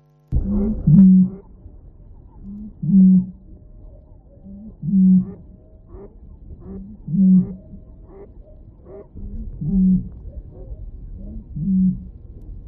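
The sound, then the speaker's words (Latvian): A Eurasian bittern's booming call, made as the bird pumps itself up, drawing in air and blowing it out: six deep, hollow booms repeat roughly every two seconds, each preceded by a soft intake-like grunt, over a quiet background with faint outdoor noise. “Jā, tās kustības ir, tas dziesmas sākums ir tāds, tā kā liekas, kad viņš ievelk gaisu un tad pūš ārā.”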